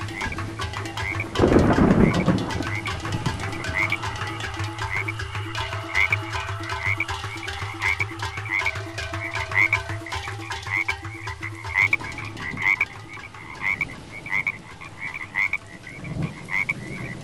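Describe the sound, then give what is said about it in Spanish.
A chorus of frogs croaks steadily, with repeated rhythmic calls overlapping throughout, a louder burst near the start and a constant low hum beneath; no one speaks. “Así lo haré, dijo la rana y se fue saltando y cantando para que la lluvia la siguiera.”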